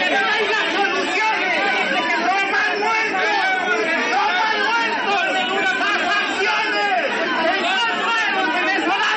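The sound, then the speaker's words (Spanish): A crowd in Bogotá, after 8 at night, shouts and protests at Defense Minister Diego Molano as he arrives to offer condolences to a patrolman's family; many voices overlap into a loud, dense clamor that holds steady the whole way through, with no single voice standing out. “Después de las 8 de la noche, el ministro de Defensa, Diego Molano, llegó a dar el pésame a la familia del patrullero, pero fue duramente cuestionado en medio de gritos y reclamos.”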